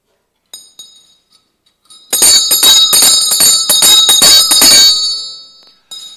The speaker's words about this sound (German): Aber ich möchte euch jetzt erstmal ein bisschen was von meiner Gewöhnlichkeit erzählen, von meiner Normalität, und es hat was mit der Glocke zu tun.